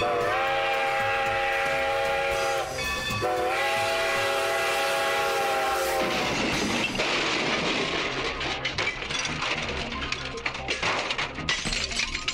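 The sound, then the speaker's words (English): A loud ballpark locomotive horn blares in sustained, chord-like blasts with a short break, then fades into a roaring, rumbling wash of stadium crowd noise, after a home run by Nelson Cruz hits the train in left center field. “This one's going to the locomotive. And it hits the train.”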